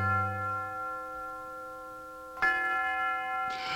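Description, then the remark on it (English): University Tower chimes at the University of Detroit ring out with long, sustained bell tones, a fresh strike sounding partway through and another near the end, each layering over the fading resonance of the last. “The University Tower chimes ring in another session of Ask the Professor”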